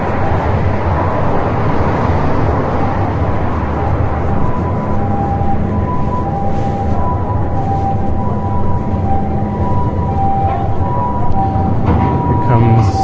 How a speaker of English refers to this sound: You're probably getting a lot of road noise in one ear. I can hear it right now.